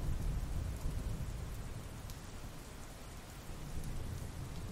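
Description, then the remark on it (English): Heavy rain pours down steadily, tapping on the windows of a cabin, while a deep, continuous thunder rumble rolls underneath, filling the background with a low, heavy roar. No voices are heard. “Thunder roared across the sky. The loud booms echoed overhead like a giant strolling through the area amidst the rain, which tapped on the windows like claws prying their way into the safety of the cabin.”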